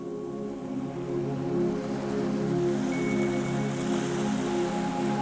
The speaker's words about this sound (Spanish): El mar, a escasos metros, se oye suave.